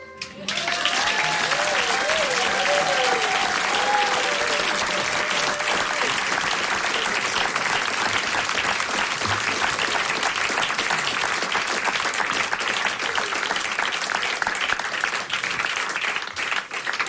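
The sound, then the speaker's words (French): Sustained audience applause welcoming Jean-Luc Mélenchon fills the whole stretch, a dense steady wash of clapping with cheering voices rising over it in the first few seconds before settling into continuous clapping. “Exclusive et sous vos applaudissements, Jean-Luc Mélenchon.”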